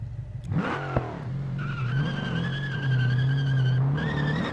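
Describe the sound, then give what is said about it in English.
A video game car roars and skids with a high, sustained tire squeal over a droning engine, broken by a sharp crash-like thump early on that leaves the car damaged and not drivable. The sound is loud and continuous, with no talking. “So it looks like my car is damaged in a way that it's not really drivable.”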